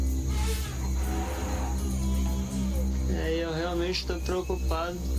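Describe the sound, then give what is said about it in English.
A herd of elephants approaches a shelter on the show Naked and Afraid, over a steady, heavy low rumble and a bed of night insects, with loud, wavering animal calls rising in the final seconds. “a group of elephants came to crash the party.”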